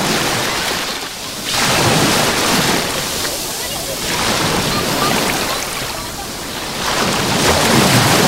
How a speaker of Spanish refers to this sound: y también hace que sea necesario de vez en cuando darse un bañito en la playa que hoy tiene este sonido. Déjate llevar, ponemos el micro en el rebalaje, a ver qué tal se escucha.